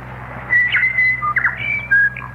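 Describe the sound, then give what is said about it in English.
A bird call interval signal from a New Zealand station heard over shortwave radio: a series of clear, sliding whistled notes in quick succession, carried over a steady low hum and faint hiss, with no talking. “I wonder how many stations start off with birds.”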